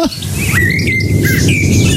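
A blackbird in a garden in the Allgäu sings the Antenne Bayern radio jingle melody, a short phrase of clear whistled notes rising and falling like a tune, over a steady low background hum.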